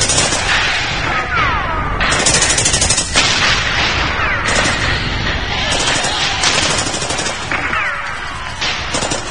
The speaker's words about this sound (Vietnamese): đại đội giật mình vì tiếng xe tăng gầm rú. Bộ đội la rầm trời, đèn pha của tăng sáng rực. Đại bác từ trên T-54 nổ tung đất cát trước mặt của mình.